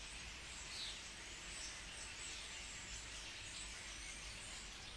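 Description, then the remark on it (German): A dense, continuous chorus of many birds singing and chirping in a huge chestnut tree behind an office, with a steady outdoor hiss underneath and no one talking. “Ja, das sind Vögel. Die hören sich an, als wären wir hier mitten im Urwald.”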